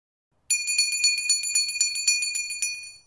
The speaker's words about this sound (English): The bell rang and Martha went out of the room.